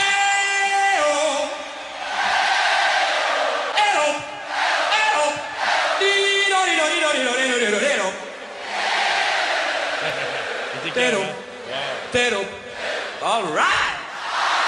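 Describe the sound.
A huge concert crowd sings along in loud, sustained unison, voices rising and falling through a chant-like melody, with bursts of cheering between phrases.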